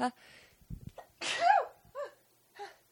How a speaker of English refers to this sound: Oh my gosh, I'm about to sneeze too.